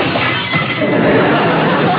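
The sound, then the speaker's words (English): A sound effect: loud rustling of paper runs continuously for about two seconds, mixed with crunching, tinkling sounds of glass shattering and breaking. “Then, a rustling of paper and a shattering of glass.”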